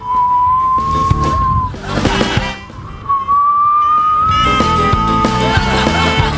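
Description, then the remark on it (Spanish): Someone imitates wind whistling through a house with two long, steady, high whistled tones separated by a short pause, over a busy background of other sounds. “¿Han cachado cuando de repente como que la casa silba? Ah, no, si silba así.”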